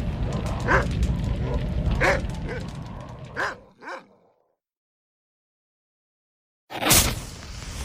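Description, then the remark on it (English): A dog barks and yips several times in quick, uneven bursts. Then comes a few seconds of silence before another loud outburst. “As long as I'm watching the boss's dog, I might as well watch a how-to video on how to take care of satanic canines.”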